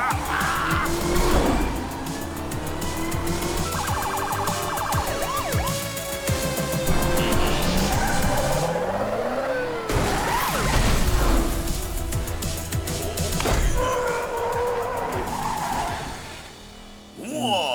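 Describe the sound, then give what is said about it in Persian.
A car engine revs hard while tires squeal and skid repeatedly, loud, with swerving screeches layered over a roaring motor throughout, with no voices. “مانده که گفتم بیای، میخواستم ماشینی که اینقدر تعریفشو میکردی و برونم.”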